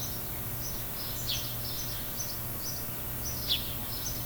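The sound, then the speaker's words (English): Birds chirp and sing in quick, repeated bursts, soft, over a steady low background hum, with no one talking. “Morning, birds.”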